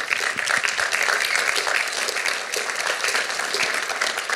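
A crowd applauds steadily, a dense wash of many hands clapping at once, holding an even, fairly loud level throughout without any voices.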